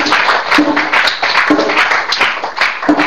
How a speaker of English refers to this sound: Give Jesus another clap offering.